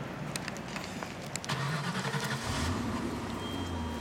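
A car engine turns over and catches, then revs up as the vehicle pulls away, the steady rumble rising in pitch. A few light clicks come just before the start.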